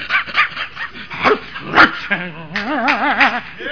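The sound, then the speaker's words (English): A voice imitates a dog barking at the word "hell", first with a run of short, rough barking yelps, then drawn-out wavering whines, loud for a few seconds. “He looks at it's the word hell, and he's barks at it, going.”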